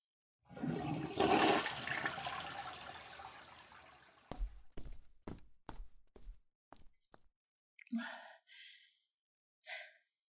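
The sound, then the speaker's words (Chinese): A toilet flushes with a loud rushing gush of water that gradually tapers off, followed by a series of sharp thumps or footsteps and a few faint breathy sounds. “老公啊，你上完厕所冲干净啊”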